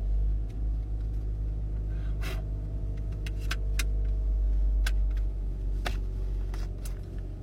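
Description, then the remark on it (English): A car engine idles with a steady low rumble and faint hum, while a few sharp clicks and taps sound over it. No one speaks. “And I'm going to start this car now.”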